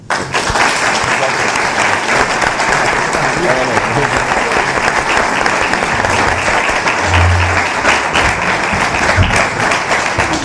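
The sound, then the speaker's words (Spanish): An audience at a municipal board meeting applauds the three female board members of the Partido Popular, a dense, steady clatter of many hands clapping at an even loudness for about ten seconds, with no pause or fade. “Por eso me gustaría pedir un aplauso para las tres compañeras vocales del Partido Popular.”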